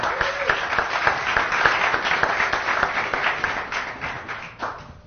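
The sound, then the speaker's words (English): Sustained applause from an audience for a panel of speakers, a dense wash of many hands clapping at steady volume for about five seconds, tapering slightly at the end. “So let's just start by giving the panelists a round of applause.”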